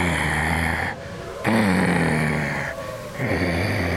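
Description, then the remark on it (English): A man's voice growls like a wolf in long, rough, low rumbling bursts, with two brief breaths between them. The growl is loud and continuous, with no speech. “I can beat those wolves.”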